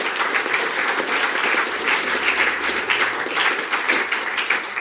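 An audience applauds steadily, a dense, sustained wash of many hands clapping with no break and no voices standing out above it.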